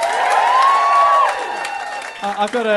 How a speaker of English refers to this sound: Give us a round of applause if you've heard Do Go On before.